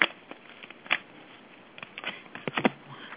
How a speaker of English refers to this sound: Okay, can I deal three cards for you? Please. Yep. I'm going to shuffle them really well.